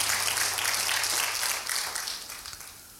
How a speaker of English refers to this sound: Clap your hands if you're ready to receive the word of the Lord.